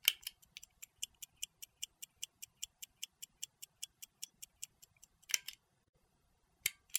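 A mechanical stopwatch ticks rapidly and evenly, crisp high clicks about five per second, then halts with a louder click; after a short silence, one more sharp click sounds.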